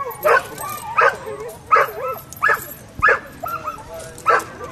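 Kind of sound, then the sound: animal, huskies barking and yipping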